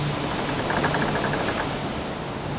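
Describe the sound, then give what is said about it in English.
A steady, loud roar of high, stormy sea waves under a black sky fills the whole clip with dense rushing noise and no voices. “Now the sky is black and the waves are very high.”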